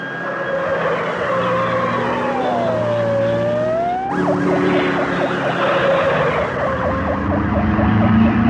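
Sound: police car sirens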